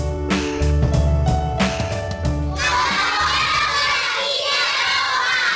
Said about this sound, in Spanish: Colabora con la Silla Roja, es lo que decían, o mejor dicho, gritaban estos niños y niñas del Colegio Menesiano de Madrid, en donde se ha presentado la campaña La Silla Roja, de la organización no gubernamental Entre Culturas.